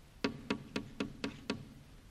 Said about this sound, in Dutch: Urenlang liep ze onder de hoge bomen en het werd al bijna donker toen ze in de verte een heel klein huisje zag. Ze ging er gauw naartoe en klopte op de deur.